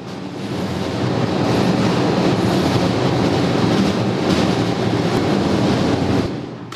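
Industrial document shredding machinery in the document destruction area of the Wendelsteinwerkstätten am Oberfeld roars steadily, a loud, dense grinding rumble with a hissy, clattering texture that holds constant for several seconds before tapering off at the end. No one speaks.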